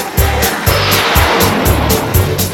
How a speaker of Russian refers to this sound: А машина зверь, слушай.